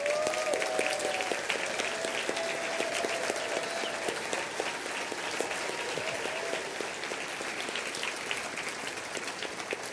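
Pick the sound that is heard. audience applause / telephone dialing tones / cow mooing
audience applause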